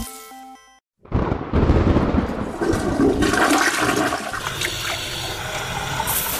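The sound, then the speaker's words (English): A brief tonal chime gives way to a short silence, then a loud toilet flush erupts with rushing, gurgling water that roars steadily and slowly eases as the bowl drains and refills. “When we take a drink, we use the wharepaku”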